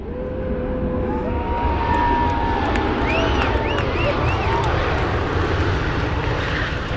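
The Frontier Airlines passenger jet named Lucy the Goose touches down for the first time at Provo Airport, its engines a loud, steady roar with whining tones that rise and fall across the seconds, while a crowd of more than 500 people murmurs faintly underneath.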